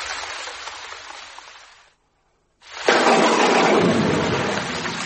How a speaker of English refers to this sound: These storms never last more than an hour.